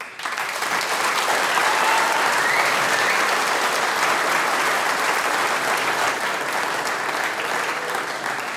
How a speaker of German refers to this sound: Und der nächste Applaus, der gehört euch.